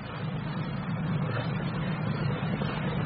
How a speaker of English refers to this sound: The boat is arriving at the lighthouse.